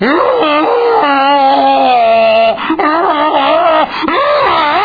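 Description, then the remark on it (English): A human voice imitates the weird noises cows make besides mooing. The calls are loud, drawn-out, wavering moans with a strong tone, sliding up and down in pitch across three long calls separated by brief breaths. “You've now gotten actual cow noises.”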